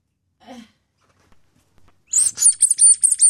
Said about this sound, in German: Aber es quietscht, ist ein klassisches Quietsche-Entchen. Gelb und quietscht.